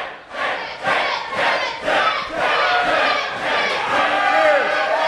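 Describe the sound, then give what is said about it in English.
A group of voices shouts a person's name over and over in loud, rhythmic bursts, roughly once per second, building into a sustained rowdy chant, as they take a round of shots together. “Stop yelling my name. I look every time.”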